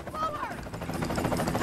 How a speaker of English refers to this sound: The chopper slows and hovers above Jim.